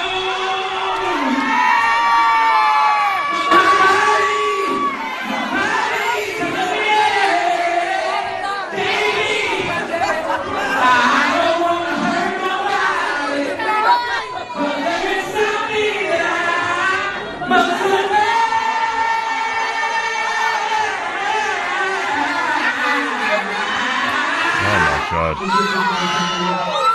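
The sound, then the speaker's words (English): A packed Illinois nightclub crowd of young women fans cheering and shouting continuously during a singer's brief live performance, loud, with excited whoops and overlapping chatter layered over a steady crowd roar. “But who's cheering? Yeah. Where? Who? How? These are young women. It's mostly young women in the crowd.”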